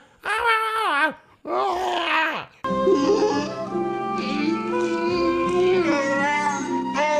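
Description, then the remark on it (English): A voice imitating the grunting and growling of the Wookiees in a movie: two short wavering yowls, then a longer warbling growl over a low rumble, loud and continuous with no ordinary talk. “Oh, yeah, the Wookiees are just grunting and growling the entire time, and there's no subtitles.”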